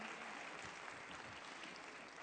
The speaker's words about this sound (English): Give the Lord a great big hand clap for this morning for your participation, joining in with us.